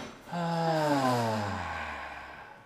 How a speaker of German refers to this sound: Und ihr dürft zu Hause super gerne mitmachen. Wir atmen immer gemeinsam ein und dann durch den Mund aus.